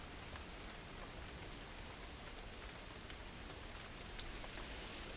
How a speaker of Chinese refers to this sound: 好像下雨了呀。真的下雨了呀。看来今天不适合出门哦。